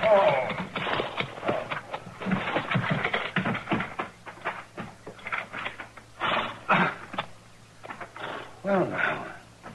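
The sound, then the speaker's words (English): Horse hooves clip-clop in a steady, uneven patter at moderate volume as a wagon pulls into a yard, the knocks running in bursts through the whole stretch while voices sound intermittently alongside. “My horse went lame on me other ways.”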